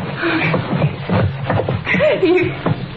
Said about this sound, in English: Help me drag him over to that fireplace.